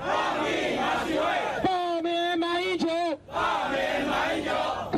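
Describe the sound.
A large crowd at a protest march in Taipei, Taiwan, against the meeting between the presidents of China and Taiwan chants and shouts in unison, with a loud voice leading a rhythmic call in the middle that the mass of voices answers, all at a steady, roaring level.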